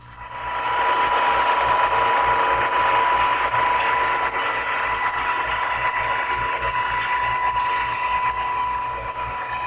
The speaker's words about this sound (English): A PT boat, with its powerful engines and high-speed gears, produces an easily recognized whine.